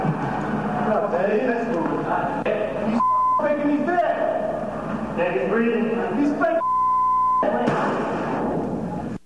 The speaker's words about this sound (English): Okay, well, I think the beeps kind of covered up a lot of what was important there.